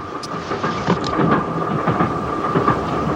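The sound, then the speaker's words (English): A train on the Orient Express rolls steadily along the rails, a loud continuous rumble with a faint whine on top and repeated clacks of wheels over track joints. No one speaks. “This is played by Robert Shaw, who everyone knows from Jaws, and he's following him throughout the movie, and they have a really intense altercation on a train on the Orient Express.”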